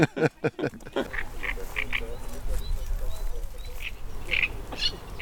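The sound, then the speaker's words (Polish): A great reed warbler sings from the reeds: harsh, croaking, frog-like chatter in quick bursts, opening with loud rasping notes and then repeated grating phrases over a low outdoor hum. “Więc trzciniak tutaj zaznaczył swoją obecność nie tylko śpiewem”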